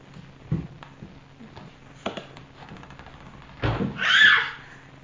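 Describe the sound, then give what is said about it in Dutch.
A ball is thrown against a door three times, dull knocks spaced a second or so apart, followed by a brief high-pitched shriek. “Ja, nou, gooi de bal maar. Ik zit hier. Dan moet ik ook helemaal tegen de deur aan zitten.”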